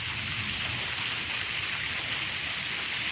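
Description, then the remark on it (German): Heavy rain pours down steadily in a dense, continuous hiss, drumming on surfaces, with a low rumble in the background, as a second thunderstorm moves through and the rain picks up again. “Und hier wirkt es jetzt gerade so, als ob noch ein zweites Gewitter jetzt durchzieht, weil der Regen nimmt wieder zu.”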